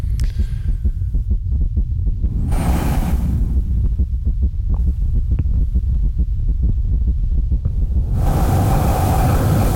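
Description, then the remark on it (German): A deep, throbbing heartbeat pulse, picked up by a microphone at the neck, thuds steadily over a low rumbling hum, with brief washes of airy noise swelling in and out. No voices are present. “Und die Stücke sind sehr unterschiedlich, der Herzschlag ist sehr unterschiedlich, einige Sachen sind sehr meditativ, andere Sachen sind wirklich verstörend.”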